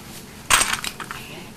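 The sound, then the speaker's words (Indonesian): A small hard object clinks sharply against a plate, one bright ringing hit followed by a few quicker, softer rattles that fade within a second. “Kena piring.”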